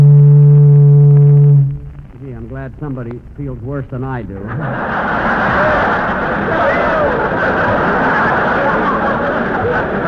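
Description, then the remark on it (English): A boat whistle gives one loud, deep, steady blast lasting under two seconds, from a boat in Vancouver bound for Seattle. A man then speaks briefly, and a continuous broad rumbling wash of noise follows. “That's a boat whistle.”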